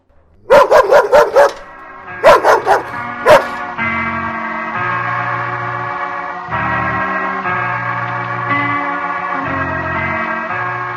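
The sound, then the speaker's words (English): A small mongrel dog lets out a quick string of sharp, high-pitched yips and barks, roughly eight in three bursts, loud, before sustained music takes over. “A nasty, squalling little mongrel.”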